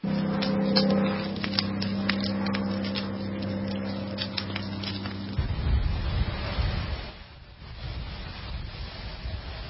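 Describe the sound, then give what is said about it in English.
A wildfire burning in Texas: sharp, irregular crackles snap over a steady low droning hum, then give way to a loud rushing, hissing wash of wind and spraying water from firefighters' hoses. No one speaks. “Yeah, that crackly sound and then the winds and, of course, the water from the fire hoses.”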